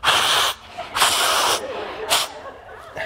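A person blows their nose: two long, forceful, breathy blasts followed by a couple of shorter snorting puffs, loud and rough.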